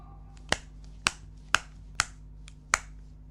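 Five crisp, sharp snips ring out at a steady pace, like scissors cutting through something, each one a short bright click over a faint background hum with no talking.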